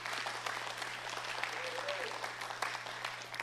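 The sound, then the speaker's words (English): A crowd claps steadily in a dense wash of applause that holds at an even level throughout, with a low constant hum underneath and no one speaking. The audience is applauding a woman whose permission allowed a film to be made. “So can we give her a round of applause again, please?”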